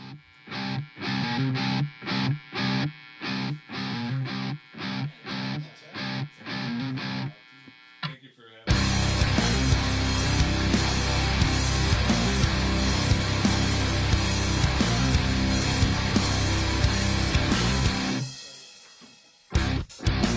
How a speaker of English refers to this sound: Right now we have their brand new song